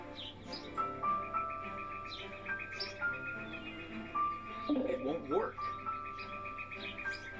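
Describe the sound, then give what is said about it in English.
Birds chirping in a steady run of short whistled notes and a fluttering trill midway, moderately loud over a low continuous background hum. “Damn birds.”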